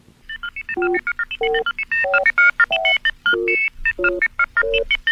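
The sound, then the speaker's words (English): A telephone sounds off in a rapid, busy run of electronic touch-tone beeps, short bursts at shifting pitches that form a bright, almost melodic ring, with no one talking. “Did someone ring?”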